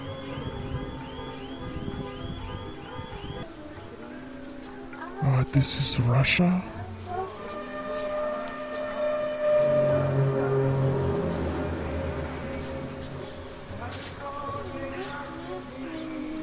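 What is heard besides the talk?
car alarm going off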